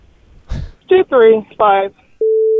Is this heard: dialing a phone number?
yes